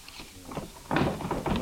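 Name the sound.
desk drawer being opened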